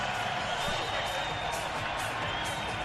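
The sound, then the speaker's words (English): A huge indoor crowd at the Marriott Center in Provo roars without letup during a basketball game as BYU leads Kansas by 31, a dense, loud wall of cheering and shouting that fills the arena and holds steady for a few seconds with no single voice standing out. “There's Bedlam in Provo. Listen to the crowd here for a second.”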